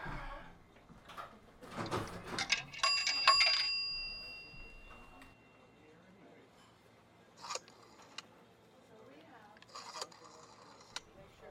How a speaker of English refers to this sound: This is gonna take forever. Dialing the East Coast on a rotary phone, it's, you know, plus the extensions, it's like an hour's work.